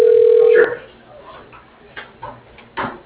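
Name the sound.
telephone call ringing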